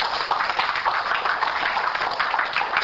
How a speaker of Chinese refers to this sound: 那么给自己本身一个最热烈的掌声哈